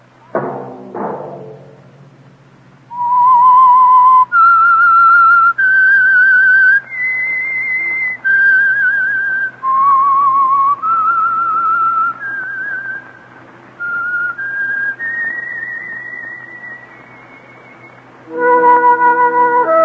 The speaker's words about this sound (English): Let that whistle be your invitation to listen to the Household Finance Corporation program, The Whistler